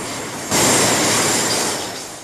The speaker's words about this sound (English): A train pulls away from the station.